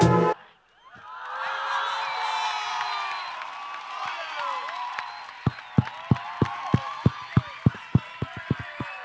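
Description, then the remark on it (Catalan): An audience of people of all ages erupts in loud cheering and whoops, a dense wash of voices, then settles into steady, rhythmic clapping in unison, sharp claps about twice a second over the lingering crowd noise. “Veo gente de todas las edades aplaudiendo.”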